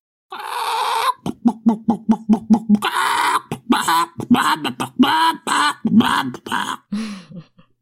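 A short, loud rooster jingle: a drawn-out crow followed by a rapid string of sharp clucks, then more squawking crow-like calls, with no talking.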